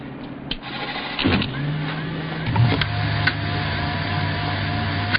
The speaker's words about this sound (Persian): این یه موتور 5 توربینه پس‌سوزه که کلن با بقیه موتورها توفیر داره. یه چیزی تو مایه های موتور جت.